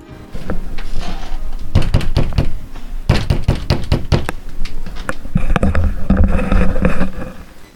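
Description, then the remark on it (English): Heavy fists pound repeatedly on a wooden door in several rapid bursts, loud, with brief pauses between volleys and some rattling as the door shakes. “She doesn't hear the chiming of the bell, but she does hear them beat on the door.”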